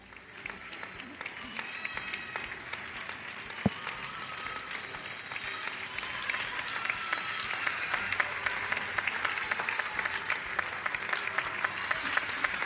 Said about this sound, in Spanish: En fin, el aplauso emocionado de todos los españoles, de todos los madrileños, a aquellas personas que hacen posible que esto, en fin, lo podamos vivir con algo de tranquilidad, si es que esta palabra cabe en estos días de confinamiento.